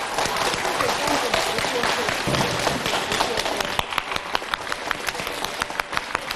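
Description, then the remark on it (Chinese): A large audience breaks into warm, sustained applause to welcome station director Lu Junhong, a dense steady wash of clapping that thins in the last couple of seconds into sharper, scattered individual claps. “让我们用最热烈的掌声恭请我们尊敬的卢军红台长。”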